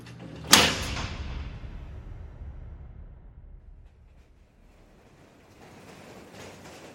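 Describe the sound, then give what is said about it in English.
Subway train doors shut with one sharp, heavy thud, followed by a low mechanical rumble that slowly fades away. A faint hiss returns near the end. No one speaks. “clear of the closing doors, please.”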